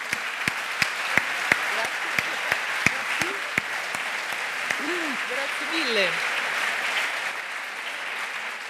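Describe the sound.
A crowd claps steadily for several seconds, a dense wash of many hands with a few sharper individual claps standing out, while faint voices murmur underneath.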